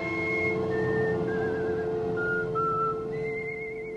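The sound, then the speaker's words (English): A clear whistled melody with wavering vibrato, the whistled version of a 1950s film's Oscar-winning musical theme performed by a Hollywood whistler, moving through several sustained notes over a steady low instrumental backing, with no one speaking. “But many filmgoers from the 50s will remember this whistled version.”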